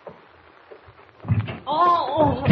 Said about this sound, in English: Wait a minute. Thought I heard someone at the door.